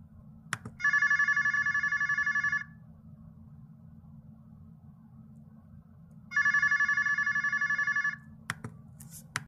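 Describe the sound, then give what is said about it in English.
Two long rings of an outgoing phone call, each a steady buzzing tone lasting about two seconds with a pause between, over a low constant hum, followed by a couple of brief clicks. “we need to make another phone call, too.”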